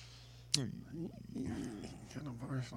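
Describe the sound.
A person imitates a big cat's growl: a sharp, breathy burst followed by a few low, raspy, rumbling growls with wavering pitch, moderately loud and stretching over a couple of seconds.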